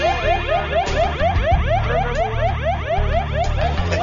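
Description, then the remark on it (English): A loud aircraft cockpit warning alarm blares during a simulated emergency with stuck landing gear, a rapid electronic warble of rising tones repeating several times a second, steady and insistent over a low engine-like rumble, with no voices. “As they wrestle with the stuck landing gear, another alarm goes off.”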